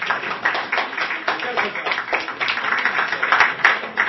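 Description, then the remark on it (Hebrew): Steady crowd applause lasts the full four seconds, a dense wash of many hands clapping at once, with a murmur of voices mixed in underneath; applause for those who came and those who did not, at the house of the Baal Shem Tov. “ומחיאות כפיים לכל מי שלא הגיע לכאן.”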